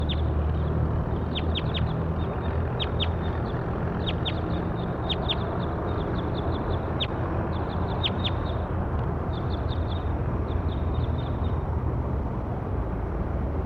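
Bird calls in a field recording: bursts of quick, high-pitched chirps repeat in clusters for about eleven seconds over a steady, loud background rumble, with no one speaking.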